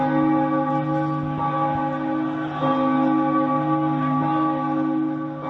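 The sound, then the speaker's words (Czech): The Old Town church bells in Prague ring loudly and steadily at 5:31 in the morning, their deep overlapping tones sustaining throughout with a fresh strike partway through, and no voices present. “V 5:31 ráno se rozezněly staroměstské zvony.”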